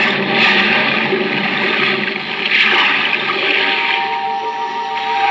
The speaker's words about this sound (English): Now, hoist you up and overboard and dive with your equipment well in hand into the sea and under it.